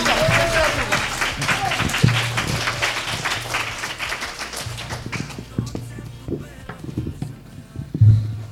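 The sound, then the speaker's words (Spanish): An audience breaks into loud, dense applause for a group of sixth-grade schoolchildren presenting a story, many hands clapping at once, then the clapping gradually thins and fades toward the end, with faint murmuring underneath. “Un fuerte aplauso para estos niños.”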